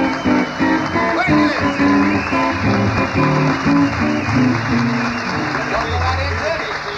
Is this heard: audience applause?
yes